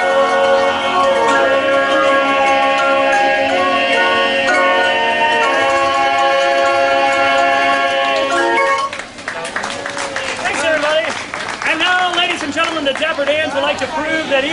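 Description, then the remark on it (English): 100-year-old Deegan organ chimes ring out a slow melody of sustained, overlapping bell-like notes for several seconds, then fall away as a person begins talking. “Played on these 100-year-old Deegan organ chimes by playing Rachmaninoff's Prelude in C-sharp minor.”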